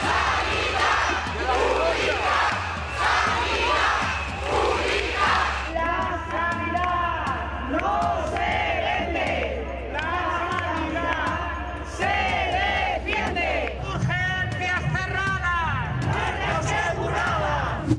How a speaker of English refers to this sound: And for us, this Sunday's protest was a clamor from the neighbors asking and demanding policies so that primary care won't die.